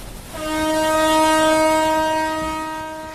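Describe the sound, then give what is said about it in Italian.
A paddle steamboat's whistle at La Crosse on the Mississippi River sounds one long, steady blast, a loud, reedy low-pitched tone rich in overtones that swells and then eases slightly toward the end. No one speaks. “Il suono quindi della La Crosse, navigare oggi lungo il fiume, battelli a ruote e steamboats che attraccano ancora in questo porto fluviale dove diventano musei itineranti del tempo che fu,”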